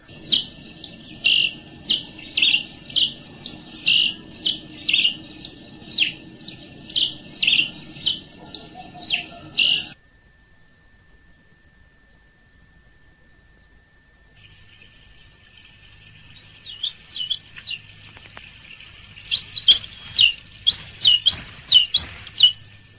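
Birds singing a dawn song: a steady run of bright, high chirping notes, a brief pause, then a busier burst of looping, warbled calls rising in loudness.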